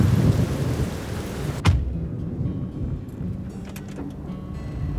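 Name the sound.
heavy rain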